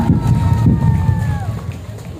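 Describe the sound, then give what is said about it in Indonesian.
A crowd cheers and claps in a steady, loud wash of noise, with a high whistling tone that glides downward partway through, as a development parade for the Mentok town anniversary and Indonesian Independence Day is declared open in Mentok, Indonesia. “Boleh kita beri tepuk tangan yang meriah.”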